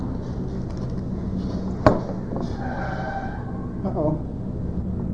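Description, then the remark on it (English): A car brakes sharply with a brief tire screech after a sudden sharp knock, heard over steady traffic rumble, with faint voices in the background. “And the car, at the last minute, slammed its brakes on and came to a stop just in time.”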